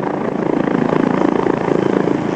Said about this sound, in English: The sound of military helicopters in South Korea taking off as part of the first live-fire drills of the new year there.